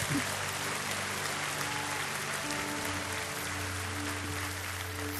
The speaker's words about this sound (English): Come on, clap your hands for these fellas. They're good guys.